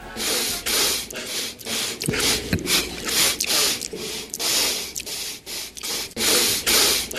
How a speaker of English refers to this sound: This is a loop of Donald Trump sniffing.